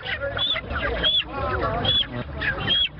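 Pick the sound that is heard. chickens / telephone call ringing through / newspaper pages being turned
chickens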